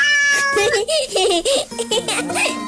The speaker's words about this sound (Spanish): No sé hablar el idioma de los gatos. ¡Inténtalo! A ver. ¿Miau? ¿Miau? ¿Miau, miau? ¿Miau?